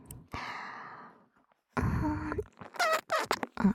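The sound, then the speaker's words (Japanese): Breathy, airy mouth noises: a long soft exhale, a pause, then a louder rush of breath breaking into a run of quick, sputtering puffs and squeaky lip sounds, with no talking. “おならじゃないですよ、私の口の音です。”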